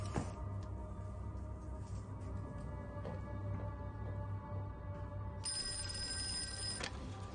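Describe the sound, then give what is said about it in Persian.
A telephone bell rings in a brief burst near the end, bright and metallic, over a steady low electrical hum. No one speaks. “تلفن نباشه.”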